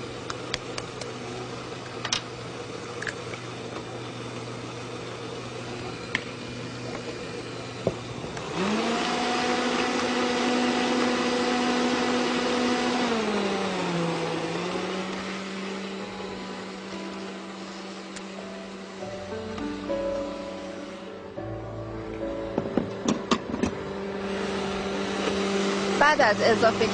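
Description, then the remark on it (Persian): An electric mixer whirs steadily as eggs are added one at a time to a cake batter, each mixed in for about 30 seconds. Its motor pitch shifts and dips as it works, with a brief lull before clattering and louder mixing resume near the end. “یه تخم مرغ اضافه میکنیم 30 ثانیه که مخلوط شد، بعد تخم مرغ بعدی رو.”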